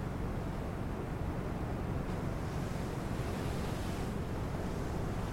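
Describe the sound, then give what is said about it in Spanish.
A steady, continuous roar of sea waves breaking below a cliff at Yastres on the Asturian coast, at the foot of the Sierra del Sueve, mixed with wind rushing past, swelling slightly in the middle before settling back; no voices are heard. “Como ya te habrás dado cuenta, Yastres se encuentra ubicado en uno de los parajes naturales más impresionantes de la costa asturiana, colgado en el acantilado sobre el mar y a los pies de la Sierra del Sueve.”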